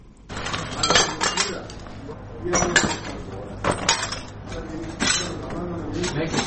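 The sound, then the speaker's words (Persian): Shards of broken glass clink and scrape as they are swept and gathered, in repeated bursts of sharp jingling over a steady low background hum; glass from a rocket strike being cleared up at a house in Khair Khana, Kabul, Afghanistan. “پارچه های شیشه را جمع می کنند و می خواهند ویرانه های راکت را که صبح اول قوس به این خانه در حصه دوم خیرخانه به بار آورده ترمیم کنند”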